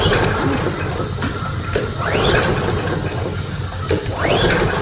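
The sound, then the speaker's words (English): A lawnmower engine is pull-started again and again, each yank of the cord giving a rising, rattling whirr that sputters out without catching, fairly loud. “There's no need to pull your shoulder out of your socket. Gary is the small engine specialist, and he is your one stop for lawnmower repair”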